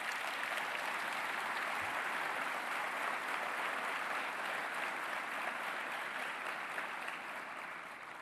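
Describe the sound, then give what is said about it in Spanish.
Sustained applause from a crowd for Toto Caputo, a dense, steady wash of clapping that stays loud throughout and eases slightly toward the end, with no voices standing out. “Vaya si no se merece un aplauso este señor Toto Caputo.”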